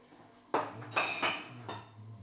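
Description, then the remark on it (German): Dried dishes clink and clatter as they are set down and put back away, a few bright knocks of ceramic and glass in quick succession, with no talking. “Wieder reinstellen und dann haben wir es doch. Kein Müll, kein Dreck, kein dreckiges Geschirr.”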